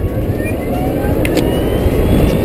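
A motorbike that does 0 to 100 km/h in 5 seconds accelerates steadily to about 110-112 km/h, its loud, continuous engine roar joined by a high, rising whine that sounds almost like a jet turbine, with rushing wind noise underneath.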